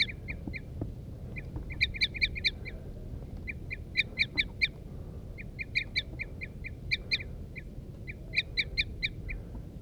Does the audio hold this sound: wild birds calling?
yes